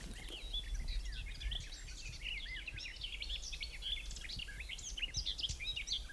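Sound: garden warbler singing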